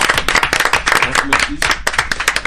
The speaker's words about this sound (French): Allez, on s'applaudit tous. On se kiffe.